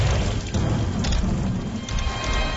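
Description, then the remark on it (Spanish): Heavy rain pours steadily while deep thunder rumbles low and continuous underneath, a dense, loud storm wash with no voices, heard from a bedroom at one in the morning. “Es la tormenta, mamá. Tengo miedo.”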